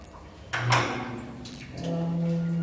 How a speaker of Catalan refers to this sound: Finalment, quan ja no és qüestió d'hores, sinó de minuts, 10 minuts de vides, per ser exacte, s'obre la porta del búnquer.